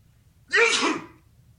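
A single loud, close sneeze bursts out abruptly, a sharp breathy explosion lasting about half a second before fading back to near silence.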